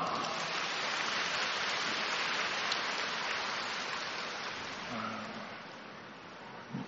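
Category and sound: crowd, audience applause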